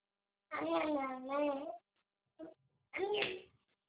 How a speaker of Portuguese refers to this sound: A minha filha tá chorando tanto porque tá com dor.